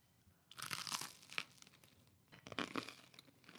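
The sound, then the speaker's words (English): Crisp crunching as someone bites into and chews crostini made of toasted high-quality sourdough topped with leftover broccoli, two bursts of brittle crackling about two seconds apart, with no talking. “Sorry for the chewing noises.”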